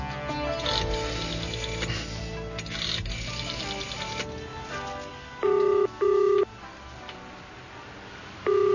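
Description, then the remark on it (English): Keypad tones of a phone number being dialed: three loud, steady beeps, two in quick succession and one a moment later, following a stretch of busy, buzzing mechanical clatter. “Phone a certain number, it says, or else.”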